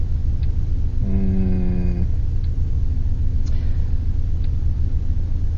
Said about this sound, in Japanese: これだけね、車が渋滞してるとね、渋滞を迂回しようとする車、それから対向車が来て、横の道に入っていこうとするんだけど渋滞で入れないっていうことで止まっちゃってる対向車とかね、いろいろありますね。